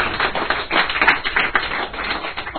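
An audience applauds steadily throughout, a dense, even patter of many hands clapping at once with no voices over it, holding at a fairly loud level for the whole stretch.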